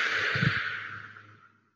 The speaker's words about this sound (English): One of the things they start with is just breathing. Breathing in for a count of five. Holding for a count of five. And breathing out through the mouth